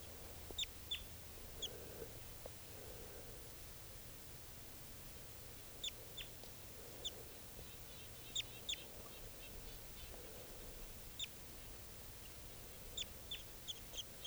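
wild bird calling

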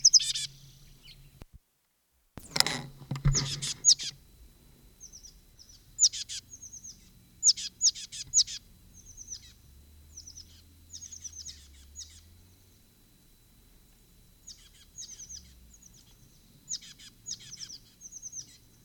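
bird singing

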